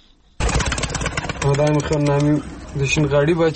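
pigeons cooing

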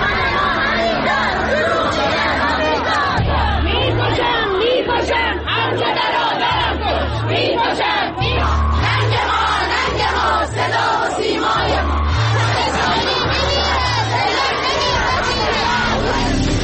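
protest crowd chanting slogans

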